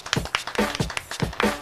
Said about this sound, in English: Why are we clapping? Because it's like with a beat.